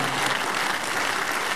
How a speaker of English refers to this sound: Stand to your feet. Give the Lord the biggest clap offering. Come and give the Lord a big clap offering, everybody.